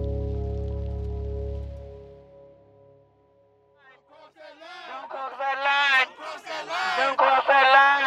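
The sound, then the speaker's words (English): A low fading tone gives way after a brief lull to a loud, dense crowd of skateboarders, students, activists and families shouting and chanting together on the cold, rainy streets of Memphis to demand justice, with rain spattering on the street beneath the voices. “In Memphis, skateboarders, students, activists, and families shouted from the rainy, cold streets for days in a row to demand justice for Tyree.”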